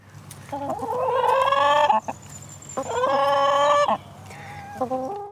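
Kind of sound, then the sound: bird, chicken clucking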